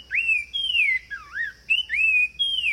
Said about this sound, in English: Now, here again is the sumacrest wren. Genetic studies eventually proved that these birds are distinct species, each with their own way to serenade their forest homes.